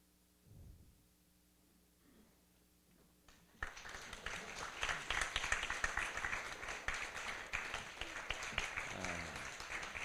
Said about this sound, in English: And what about a round of applause for all the actors? It's very nice of them to come.